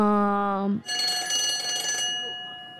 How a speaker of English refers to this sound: There's the bell. We better get to class.